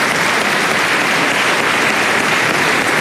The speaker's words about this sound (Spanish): Le damos un aplauso también al presidente Piñera, en paz descanse.